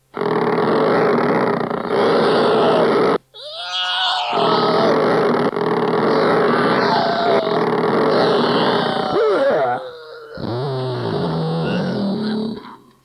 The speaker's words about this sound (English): Here I go! I'm starting on my chainsaw right now!